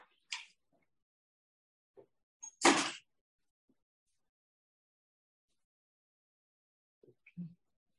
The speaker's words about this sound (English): For those on Zoom, we just had to close the door. It's a little bit of outside interference, but I think we're okay.